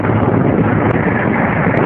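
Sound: wind blowing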